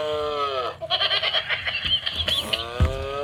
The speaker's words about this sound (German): die lachende Kuh, die lacht. Die kugelt sich vor Lachen.